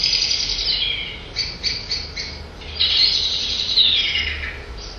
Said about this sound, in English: The alarm calls of blackbird, you hear that dust very often before they turn in for the night, and also when there's a predator at that.